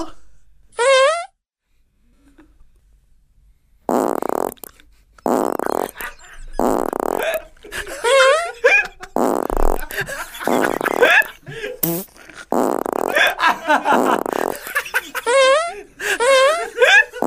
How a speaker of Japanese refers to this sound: 体の内側から何かが肛門を押す感覚がした。おならだ。数年ぶりにおならが出る。あーやっべえ、これはすごいぞ、うん、おなら出る、うん、あー出る出る出る、うん、おなら出る、あもうここまで来てる、おならが、あー行くぞ、おなら出るぞ